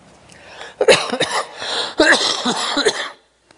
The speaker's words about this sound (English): So I may cough from time to time. Just those of you who might be bothered by such things, don't be. I have a little allergy to some sort of a pollen that probably has been very prevalent.